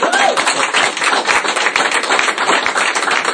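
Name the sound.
audience applauding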